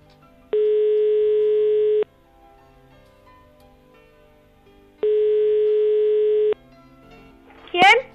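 An outgoing phone call's ringback tone: two steady, long electronic beeps separated by a few seconds of quiet, followed by a brief, sharp burst as the line connects.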